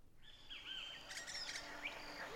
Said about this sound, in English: I'm along a section of the river where the houses and the roosters are scarce, and the morning is flooded with the voices of the birds. A celebration of song.